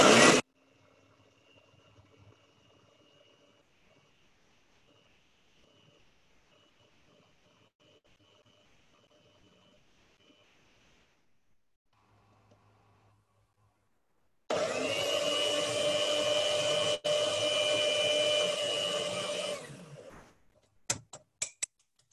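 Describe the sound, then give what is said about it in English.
An electric coffee and spice grinder whirs loudly and steadily as it grinds herbs for several seconds after a stretch of faint background hum, then cuts off, followed by a few sharp clicks. “Alhamdulillah, would any coffee grinder work, or is that something very special?”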